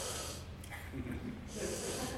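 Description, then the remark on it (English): A forceful, hissing breath drawn in through the nose, fairly loud, with a brief quieter pause in the middle before the airy rush resumes. “Some people, they heard that breathing through nose is maybe easier to have a deeper breath.”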